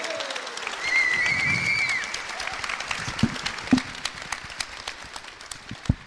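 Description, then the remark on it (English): A conference audience applauds the first speaker steadily, a dense wash of clapping that carries on for several seconds with a few louder individual claps standing out near the end. “Could you give a big round of applause for our first speaker who's going to kick us off”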